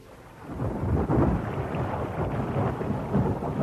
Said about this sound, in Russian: Душный вечер сменяется прохладной свежей ночью. Грозовое затишье прерывается глухими далекими раскатами грома.